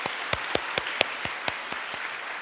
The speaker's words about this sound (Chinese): 多谢你们为他们的生命付出爱，我们大家一起给一些掌声，我们在座当中的老师和父母。